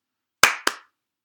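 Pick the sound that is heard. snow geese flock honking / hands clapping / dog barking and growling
hands clapping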